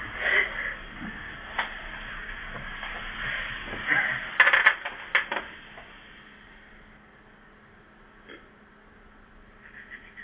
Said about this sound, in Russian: Я сейчас кинем кубику, знаешь?